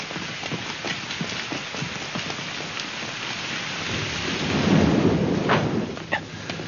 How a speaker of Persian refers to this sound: داره بارون میاد.